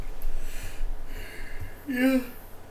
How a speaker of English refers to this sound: I apologize for the yawning.